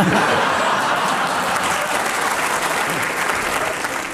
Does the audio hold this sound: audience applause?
yes